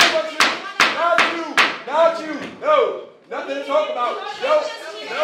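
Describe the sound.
Four sharp wooden bangs strike in quick, even succession as the mayor pounds the gavel at a contentious public meeting, trying to halt the shouting, while several voices shout and clamor loudly over and after them.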